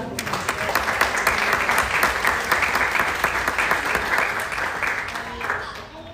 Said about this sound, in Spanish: Denle aplauso a Jesucristo.